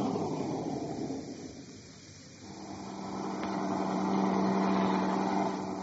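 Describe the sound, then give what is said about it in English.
Engines rumble steadily as a line of trucks rolls by, the noise easing briefly before another vehicle's low, droning hum swells up louder and holds, with no one speaking. “The rest of the line of trucks rolled past us until Cowell's truck, bringing up the rear, came into sight.”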